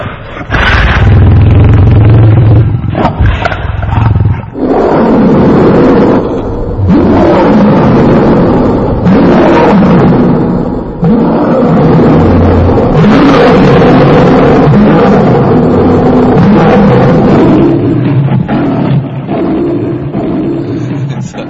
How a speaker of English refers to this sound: Finally, they looked on Lord Nrisimhadev, who kept on roaring, this deafening roar. Would you like to hear the roar again? Really?